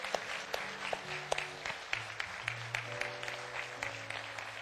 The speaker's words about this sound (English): I'm going to ask all the mothers to please stand, if you would, and let us give you a hand of applause. Amen. All the mothers, please stand.